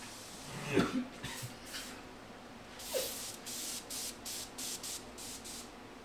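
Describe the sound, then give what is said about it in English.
An aerosol can sprays in a series of short hissing bursts, first a few quick puffs, then a longer blast followed by rapid rhythmic spurts, with a brief throaty sound near the start. “I'm spraying that shit more.”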